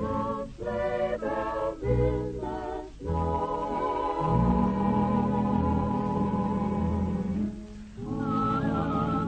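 A song plays at steady volume with a whistled melody carried over the accompaniment, the tune wavering and sliding between notes. No one talks over it.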